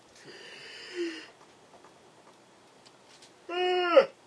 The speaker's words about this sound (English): I just yawned.